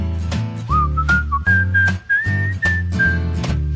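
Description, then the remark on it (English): A person whistles a bright, sliding, clear melody over steady rhythmic instrumental accompaniment with a bouncy beat. “I love to whistle everywhere I go.”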